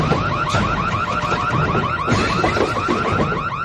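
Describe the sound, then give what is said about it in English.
A loud, continuous electronic alarm with rapidly repeating warbling tones, cycling steadily like a car alarm, blaring for a few seconds with no voices. “When we don't hear you, we're going to set off the alarm.”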